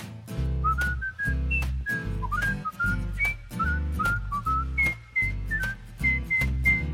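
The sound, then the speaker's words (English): A person whistles a bright, bouncy melody in short, clear phrases over a steady instrumental backing with a strong bass and beat, the whistle prominent throughout. “I love to whistle everywhere I go.”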